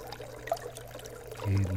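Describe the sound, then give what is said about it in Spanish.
Clear water pours and trickles steadily into a pitcher, a continuous splashing stream with a low resonant undertone that swells louder near the end. “El agua clara caer sobre el cántaro.”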